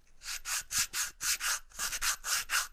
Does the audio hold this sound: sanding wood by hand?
yes